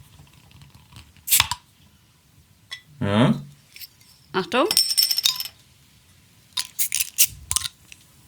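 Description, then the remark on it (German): A bottle being pried open with a lighter: several sharp metallic clicks and brief scraping bursts spread over a few seconds, with a couple of short spoken words in between. “Ich würde sagen, ich mache es jetzt einfach mal auf. Geröff, geröff. Geröff. Wieder mit dem Feuerzeug.”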